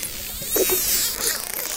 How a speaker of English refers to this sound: Wow, that's all dolphin squeaky? All dolphin make all these, yeah, like that. That's like there's like a clicking, kind of creaking sound that they make.